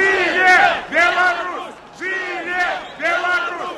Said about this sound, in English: They marched down a wide avenue, chanting "Long live Belarus" and accusing President Lukashenko of rigging his re-election.